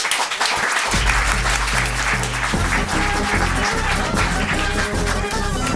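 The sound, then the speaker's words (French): A crowd claps steadily for a contestant's 15th point at the new wine festival in Cressier, Neuchâtel region, in a dense, sustained burst of applause, loud throughout, with a low hum underneath and no voices standing out. “Pour l'instant, j'aimerais que nous applaudissions tous en cœur le 15e point de”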